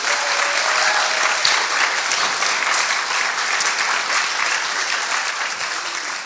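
A crowd applauds the person who made this, a dense, even wash of many hands clapping that holds its loudness for about six seconds before easing slightly at the end.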